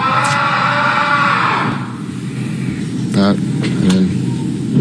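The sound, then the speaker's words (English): Two short, sharp shrieks from someone in a sports team's clubhouse ring out a moment apart over a steady roar of background noise, voiced and strained. “Just someone in the clubhouse. I relate. Shrieking in.”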